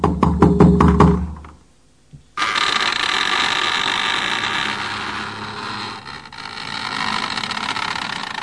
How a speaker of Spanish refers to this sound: el ama de llaves, rompió el sepulcral silencio de la mansión con sus dos suaves golpes en la puerta.